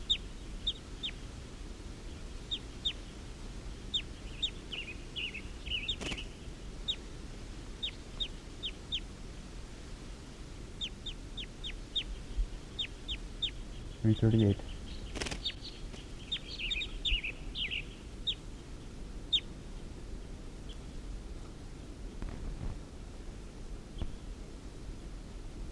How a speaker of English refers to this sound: And the wild birds are up in the trees calling, like they're gonna get ready to take off.